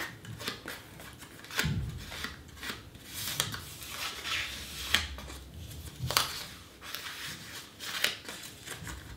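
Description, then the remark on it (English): Scissors snip through paper while a package is being opened, a steady series of crisp cuts and rasping slides with a few sharper snaps, the paper rustling between strokes and no one talking. “Oh wait, some paper sounds.”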